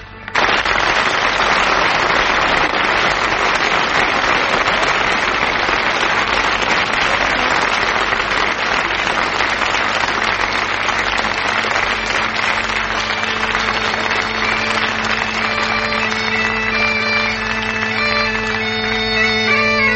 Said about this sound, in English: Right. Company, start clapping.